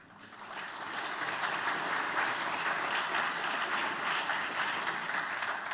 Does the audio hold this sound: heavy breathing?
no